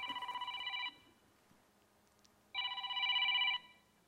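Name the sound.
telephone ringing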